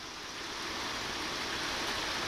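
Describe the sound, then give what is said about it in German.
Steady rain patters on a roof overhead, trickles down walls on both sides and rushes from a gutter: a dense, even hiss of countless drops that holds at a constant level throughout, with no voices. “Ich höre, wie der Regen auf das Dach über mir prasselt, an den Wänden links und rechts von mir herabtröpfelt, aus der Regenrinne links neben mir rauscht, während es noch weiter links heller platscht”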